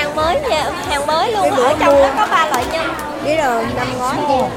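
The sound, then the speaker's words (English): Busy crowd chatter fills the scene, with several overlapping voices speaking in Vietnamese with distinctive regional accents and in other languages, a steady murmur of conversation punctuated by a few clearer voices rising above the babble. “I can hear distinctive regional Vietnamese accents as well as other languages.”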